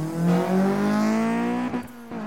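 A brand-new Lamborghini's engine revs hard as the driver floors the gas pedal on an empty road, accelerating to 100 miles an hour and beyond; its harmonic whine climbs steadily in pitch over about two seconds, loud, with a brief gear-shift dip near the end.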